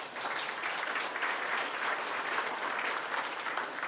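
Steady applause from an audience thanking a team leader and his team, many hands clapping at once in a dense, even wash of noise that holds at a constant level throughout, with no voices standing out.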